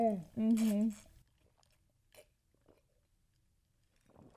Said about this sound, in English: That was a loud gulp. Wow. I'm impressed.